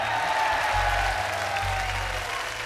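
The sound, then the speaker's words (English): An audience applauds a band and other musicians: a dense wash of many hands clapping at an even, fairly loud level throughout, with a low hum running underneath and no one speaking. “Let's give … and his band a nice round of applause, along with …, ….”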